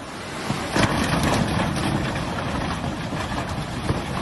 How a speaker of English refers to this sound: Here in the village of Rech, you can hear the waters of the River Ahr smashing vehicles against the bridge.